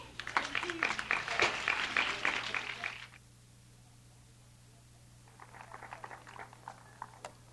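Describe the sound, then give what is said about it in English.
An audience at a folk festival in Florida claps loudly for about three seconds, then a brief hush, followed by a lighter, thinner round of applause picking up again near the end. “Keep clapping.”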